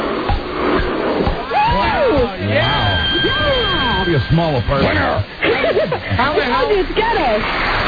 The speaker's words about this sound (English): I wanted to do the hairdryer. Run the hairdryer. Break a dish and start the vacuum cleaner.